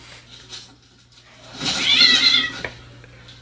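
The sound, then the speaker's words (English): A cat inside a box lets out one drawn-out, strained meow lasting about a second, fairly loud, over a faint steady hum with no talking. “There's a cat in the box.”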